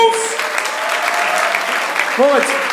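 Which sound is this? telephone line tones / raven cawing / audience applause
audience applause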